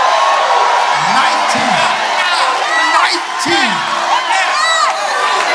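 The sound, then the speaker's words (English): A large crowd shouts, cheers and rejoices continuously in praise of God, with whoops and rising yells layered over a dense, loud wash of voices; a single voice speaks amid the noise. “Because you were shouting and you were rejoicing.”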